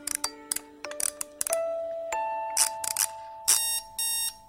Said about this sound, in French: Alors là, 5h30, le réveil qui sonne, on se lève.